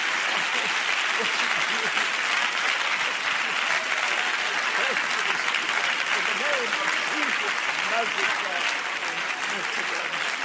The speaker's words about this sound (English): Now, if you feel that Jesus just heard you, clap your hands again for just a moment. Jesus.